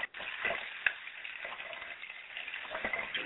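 Running water pours from a tap in a steady, hissing stream with small splashy crackles and a brief sharp clatter as hands are washed under it. No one speaks.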